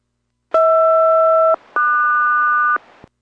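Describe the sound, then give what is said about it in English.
A SELCAL call tone sent to Boeing 407 on VHF 1 during a radio check with Boeing Everett, SELCAL code Hotel Romeo Quebec Sierra: two steady one-second bursts, each a pair of clear pitches sounding together, the second pair pitched higher after a short gap. Loud, with no voices. “And 407, roger that, cell call follows.”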